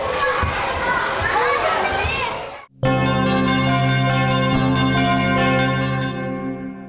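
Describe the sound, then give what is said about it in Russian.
Lively children's voices chatter and shout in a busy amusement centre, visited after a trip to a monastery, then cut abruptly to a steady, bright electronic jingle with sustained ringing tones, like an arcade machine playing. “после посещения монастыря дети весело провели время в Игроленде”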